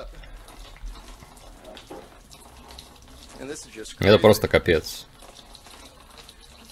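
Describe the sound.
Water pours steadily in a continuous hiss into a measuring cup held underneath, timed to see how long it takes to fill one glass, while a voice speaks briefly and louder over it partway through.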